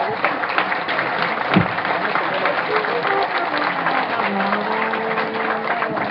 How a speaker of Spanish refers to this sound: Un aplauso a la reina campesina.